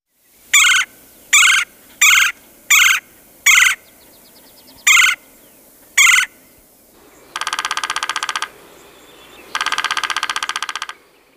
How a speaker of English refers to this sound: Red-bellied woodpecker.